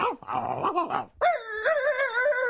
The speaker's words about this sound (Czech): Prosím vás, ty jak malí, co tu na sebe štěkáte? Však on mi rozumí, náš pejsáneček.